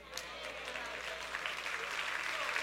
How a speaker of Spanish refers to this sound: Sí, ese es el aplauso para tu padre.